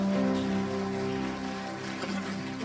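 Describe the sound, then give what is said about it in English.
An audience giving Jesus a hand clap of praise, a dense, steady wash of many hands clapping that holds at an even level, with sustained low keyboard chords humming underneath. “Give Jesus a hand clap of praise today.”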